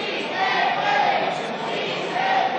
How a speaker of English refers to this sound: With shouts of "Si se puede," yes we can, from the gallery.